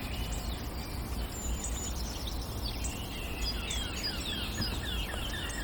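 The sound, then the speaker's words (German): Bright, clear warbling notes of a Eurasian blackcap sing out in a quick, varied phrase over a steady rush of outdoor background noise. “Hellen Töne der Mönchskassmücke.”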